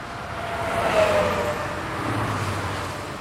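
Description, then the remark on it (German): Steady roar of traffic on the A9 motorway in Bavaria, Germany, with cars rushing past, a broad continuous whoosh swelling slightly as vehicles pass, with a faint tonal whine from tyres or engines. “Die Autobahn A9 in Bayern.”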